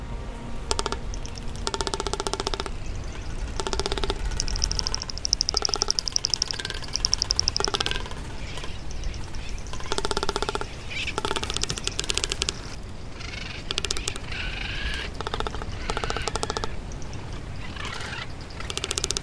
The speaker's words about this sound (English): Now here's a sample of the male's mating call, courtesy of the Cornell Lab of Ornithology.